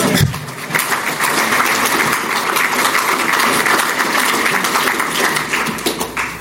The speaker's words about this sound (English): This includes establishing a frequent bus network, investing in over 40 routes at a minimum of 8-minute frequencies all day, every day. You can clap for that.